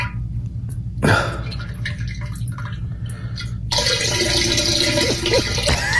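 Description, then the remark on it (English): A sick man's diarrhea splashes into a toilet bowl: a brief gush, a few scattered drips, then a sustained, loud, faucet-like pouring splash over a steady low hum. “It sounded like you turned the faucet on.”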